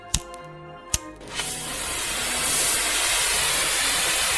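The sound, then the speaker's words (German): A few sharp clicks of a simple lighter during a demonstration, then a steady hissing flame that burns continuously as it eats through a layer of material. No one speaks. “Aber nun ja, mit einem schlichten Feuerzeug. Und ich demonstriere Ihnen das gerade mal.”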